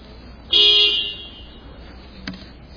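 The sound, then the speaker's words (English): A single bright, high-pitched electronic timer beep rings out for about half a second and then fades, leaving faint background hum and one brief soft knock. “Was that a timer? Was it the end of my time?”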